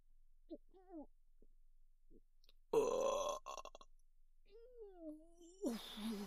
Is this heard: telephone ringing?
no